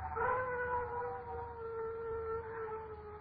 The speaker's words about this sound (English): Dogs howl when ghosts walk.